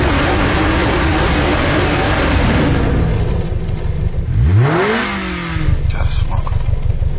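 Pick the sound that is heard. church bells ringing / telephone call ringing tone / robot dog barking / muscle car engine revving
muscle car engine revving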